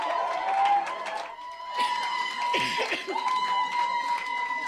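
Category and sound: crowd, crowd clapping and cheering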